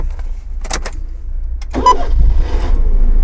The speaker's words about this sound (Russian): Когда кто-то из них заводит машину, она отзывается голосом. Если кто-то говорит по-японски, то переведите, и к следующему выпуску одной загадкой в этом мире станет меньше.